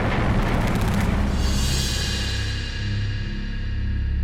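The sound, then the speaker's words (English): Anti-aircraft guns of crews defending the aerial approaches to Australia fire at a spotted Japanese plane, roaring in a loud, dense barrage, with a rapid rattle of repeated bursts at first that merges into a sustained, booming rumble. No one speaks. “In a matter of seconds, the anti-aircraft crews are letting them have it.”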